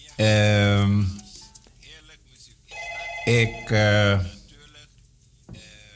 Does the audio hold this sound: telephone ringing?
yes